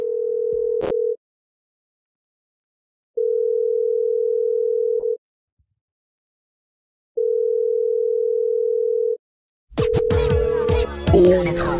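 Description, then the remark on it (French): A steady, clear ringback tone sounds in long evenly spaced beeps with silent gaps between them, three full rings, as a call is placed to a man for an interview, before the line clicks and crackles as the call is picked up. “Enfin, s'il veut bien répondre au téléphone. Allez, on l'appelle tout de suite.”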